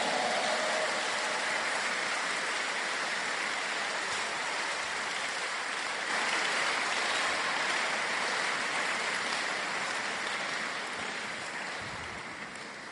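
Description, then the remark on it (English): An audience claps for Jesus in a dense, steady wash of clapping that holds for about twelve seconds before tapering slightly at the end, with no voices heard over it. “Clap for Jesus.”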